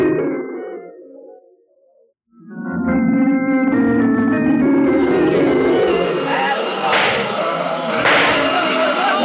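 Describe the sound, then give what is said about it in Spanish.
After a short voice and a brief pause, loud alarm bells start ringing through a bank being raided by armed men, and keep going in a continuous, shrill clangor, with shouting voices mixed in underneath. “Estruendo de alarmas y gritos se extiende por el recinto bancario.”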